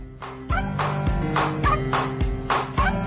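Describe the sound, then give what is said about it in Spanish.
A dog barks repeatedly in a steady rhythm, about six loud barks over a few seconds, with no one talking. “No sé si van a cantar como está cantando nuestro perro, que nos va a despedir ya el programa en el día de hoy.”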